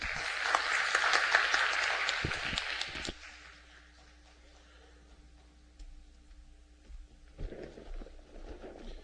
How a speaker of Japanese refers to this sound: それでは主に期待をして、送ってくださった主に期待をして拍手を持ってお迎えしたいと思います。